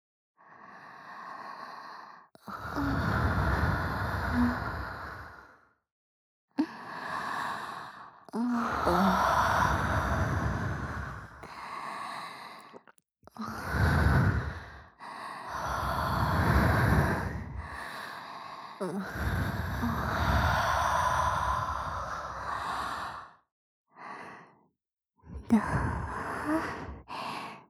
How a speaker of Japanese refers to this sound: 生温かい吐息吹きかけられるの好き。